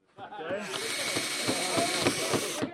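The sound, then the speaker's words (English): A power drill whirs steadily for a few seconds with rhythmic grinding pulses as it bites into wood in a heated garage where Cub Scout families build bird feeders, while voices chatter in the background. “Families are packed into a heated garage, hammering boards, drilling things together, and talking about birds they might see.”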